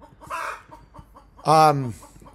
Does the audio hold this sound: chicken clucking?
yes